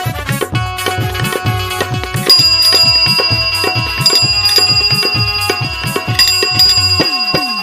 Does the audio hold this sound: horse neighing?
no